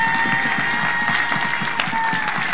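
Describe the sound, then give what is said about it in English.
Steady, sustained applause from a large standing audience, a dense wash of many hands clapping at an even loudness throughout, with a faint murmur of voices underneath. “Y'all just want to keep clapping because you want to stand and stretch your legs.”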